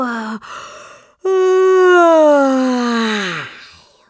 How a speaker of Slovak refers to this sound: Zívol, ani nedopovedal, čo chcel, už spal.